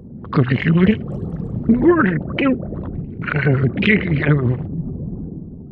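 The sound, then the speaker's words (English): A voice imitates a gurgly underwater creature while holding a bite of Jell-O in the mouth, with wet, bubbling warbles in a few wobbling bursts, a short pause, then a longer burbling call. “In order to get that gurgly sound, I would take a bite of Jell-O and make the sound of something with bubbles under the sea.”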